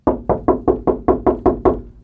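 A quick, steady run of about eight knocks on a door, evenly spaced, each a firm thud with a short ring. No voices.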